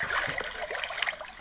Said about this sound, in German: Weißt du noch, was da los war? Warum dieses plätschernde Geräusch? Wir sind tatsächlich, wann war das? Im Juli. Da war es aber arschkalt.